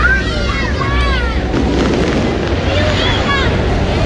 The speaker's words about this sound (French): Ah, les feux d'artifice commencent.